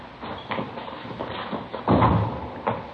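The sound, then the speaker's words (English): A door is handled: a few soft knocks and shuffles, then a louder thump near the middle and a final short clunk, with no voices over it. “Here, I'll get the door.”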